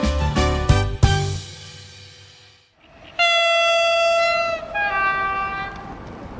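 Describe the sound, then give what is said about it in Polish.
A train at Poznań Główny railway station: metallic clanks and ringing tones fade out, then a loud, sustained train horn sounds in two long blasts, with no voices. “Poznań główny, szybko, do pociągu.”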